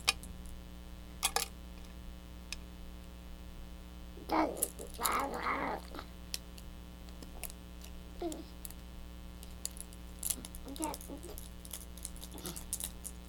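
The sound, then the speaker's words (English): A child plays with a mother's keys, which jangle and clink in scattered bursts, with one fuller stretch of shaking partway through, over a steady low hum and no talking. “Do you want to play with the keys? Yeah, like mommy's keys.”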